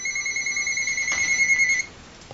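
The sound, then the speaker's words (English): Three phones ring at once, their bright electronic tones overlapping in a steady, insistent chorus that cuts off abruptly after about two seconds, leaving faint background hiss. “I got three phones going off at once.”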